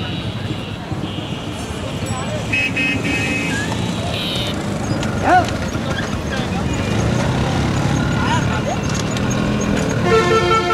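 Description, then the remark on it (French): Hooves clop steadily as a donkey pulls a jolting cart through a busy bazaar street toward the river during the Holi festival, partly buried under traffic noise, occasional honking horns and the murmur of a crowd talking. “Pour reposer vos porteurs, vous allez sur cette charrette qui hoquette avec cet âne malheureux qui vous tire vers le fleuve, vers le miracle de l'eau.”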